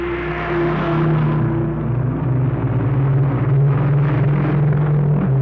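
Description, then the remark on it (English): A convoy of heavy freight trucks, the first to push through to Fairbanks, Alaska, rolls down a steep incline past a boundary line and past a parked truck in snow, a continuous loud engine rumble with shifting low tones as one vehicle after another goes by, with no voices. “Here they come now, and as they pass our truck here, I'll let you hear them.”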